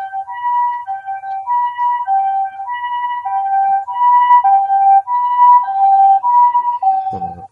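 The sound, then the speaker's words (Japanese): An ambulance's two-tone siren in Mad City, dispatched for the injured, alternates steadily between high and low notes, swelling louder as it approaches and then dropping slightly in pitch as it passes. No one speaks. “今度は救急車が出動しました。”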